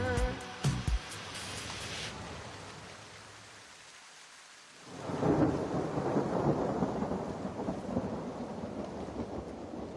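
A thunderstorm with steady rain: a few sharp cracks early on, a low rumbling lull, then a swelling roll of thunder over a dense hiss of rainfall. No voices.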